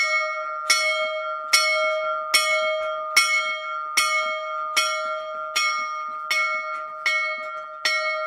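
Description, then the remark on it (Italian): A single bell rings out in quick, insistent strokes, calling a rally for the last desperate defence in the battle at Mohács, about ten evenly spaced strikes whose bright ringing tones blend into a sustained hum. Loud, with no voices. “E poi la campana, che chiama raccolta per l'ultima disperata difesa.”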